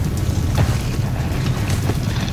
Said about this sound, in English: It's blowing pretty good. It's really gonna limit how far I can shoot. When it's blowing 40 miles an hour like this, it'll start to push your bullets.